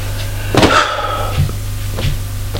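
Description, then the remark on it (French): Several hollow knocks, a father knocking on his daughter's wooden bedroom door, spaced unevenly over a couple of seconds, with a steady low hum in the background and no one talking. “Il frappe à la porte de la chambre de sa fille.”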